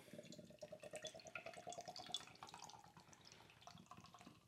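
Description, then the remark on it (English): Beer from a just-opened container, with fruit settled at the bottom, pours steadily into a glass, a continuous gurgling stream of liquid with a rising fizz as it fills, no voices present. “But let's go ahead and open it. Get it into a glass.”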